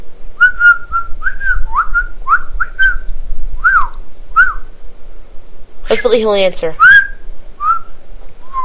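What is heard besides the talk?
person whistling a tune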